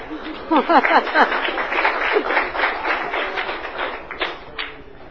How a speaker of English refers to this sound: Well, there should be some applause for the end.